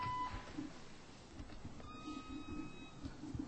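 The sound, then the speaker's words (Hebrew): A single short, steady electronic beep at a mid-high pitch, a recording-system prompt signalling the start of a recording, sounds right at the start, then fades into a low, continuous rumbling hiss with a faint tonal whine partway through. “להישמע צפצוף, נא להשמיע תיאור קצר של השיעור ואחר כך סולמית.”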